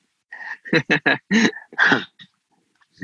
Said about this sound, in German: Da bellt sogar der Hund im Hintergrund, ja? Da bellt der Hund. Bekräftigt.